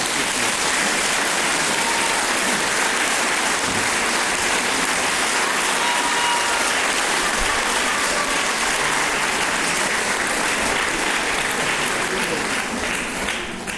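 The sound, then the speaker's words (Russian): Sustained audience applause at a philharmonic concert for a pianist and accompanist, before a romance, a dense, steady wash of many hands clapping at an even, loud level for the whole stretch, with no voices standing out. “Поэтому я думаю, что перед этим романсом наши аплодисменты должны еще раз...”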